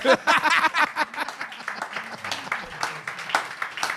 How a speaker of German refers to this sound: Das ist, guck mal, sie klatschen auch so traurig.